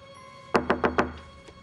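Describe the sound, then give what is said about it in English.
A locked bathroom door handle is tried, giving four quick, sharp clunks in a steady rhythm, fairly loud, followed by a fainter final knock. “He goes to the bathroom door and tries the handle, but it won't budge.”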